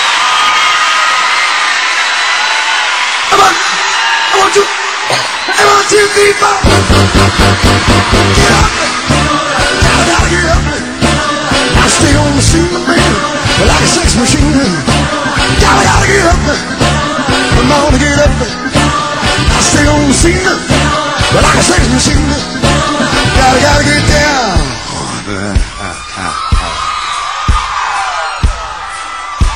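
A large audience at Bercy applauds and cheers loudly and continuously for about thirty seconds, a dense wash of clapping with scattered yells and whoops, swelling after the first few seconds and staying strong.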